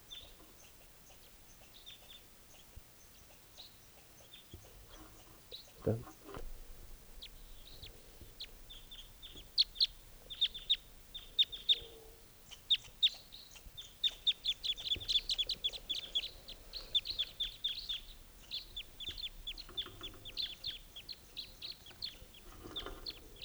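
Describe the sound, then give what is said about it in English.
Bursts of short, high-pitched tooping bird calls by a type 3 bird repeat in quick, uneven runs, growing busier after a soft thump, over a low steady background hum with no talking. “That's tooping by the type 3.”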